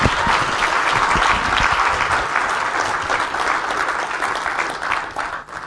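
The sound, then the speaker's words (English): An audience claps steadily in a dense, sustained round of applause for a woman as she walks across, many hands at once, holding loud for several seconds before beginning to thin out at the end. “But a very brave thing to do, so why don't you give her a round of applause as she walks across.”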